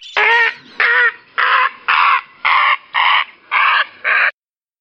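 A bird gives eight loud, harsh, cawing calls in a steady, evenly spaced series, alone, then falls silent; a bird call of fall.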